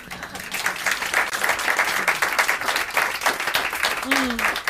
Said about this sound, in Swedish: Åh, en uppmuntrande applåd. Alla känner med dig nu ju.